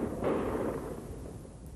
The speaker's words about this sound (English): The gas cannon is highly directional with an explosion, several times louder than the sound of a 12-gauge scare cartridge.